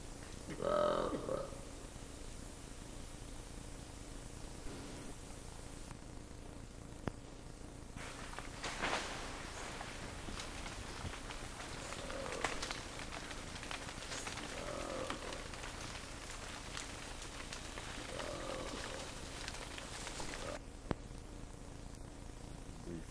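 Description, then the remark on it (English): Two animals give low, rough roars that trail off into short, clipped grumbles over a steady hiss of background noise, recorded on 18 January about 6 kilometers west of Apuru. “These two animals are giving these kind of abbreviated grumbles at the end of the roar.”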